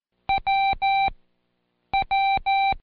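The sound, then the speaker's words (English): Morse code keyer beeps spelling the letter W, a short tone followed by two long ones, sounded twice with a pause between. The clear, steady tones are loud, with no talking. “It's a short beep followed by two long beeps.”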